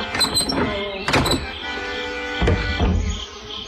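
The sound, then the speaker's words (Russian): A metal door latch is lifted with a click and rattle, followed by a few dull thuds of a bolted door being pushed with a shoulder but held shut, spaced irregularly over a faint background hum. “Эмиль подошел к двери и поднял щеколду.”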